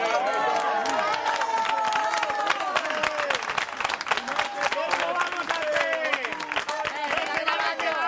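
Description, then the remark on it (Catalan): A crowd gathered to stop a family's eviction applauds as they leave for home, dense continuous clapping mixed with cheerful voices and chatter throughout, sustained at an even, fairly loud level. “Aplaudiments entre els congregats que se'n van cap a casa.”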